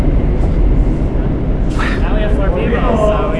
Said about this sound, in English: No, we're in the subway now.